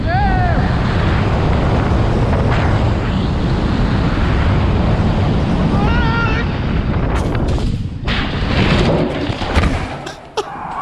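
Strong wind roars and buffets the microphone almost continuously and loudly, then abruptly thins out near the end as the man recording reaches a house, leaving scattered knocks and clatter.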